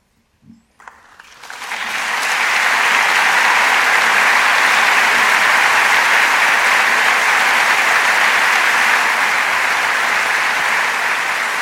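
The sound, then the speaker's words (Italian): A large audience breaks into applause after a brief quiet moment, greeting the end of readings from Giovanni Pesce's "Quando cessarono gli spari" by two young Piccolo Teatro actors; the clapping swells quickly into a loud, dense, steady ovation that carries on for about ten seconds without any talking. “Un grande applauso che accoglie la conclusione delle letture da Quando cessarono gli spari di Giovanni Pesce, i due giovani attori del Piccolo Teatro,”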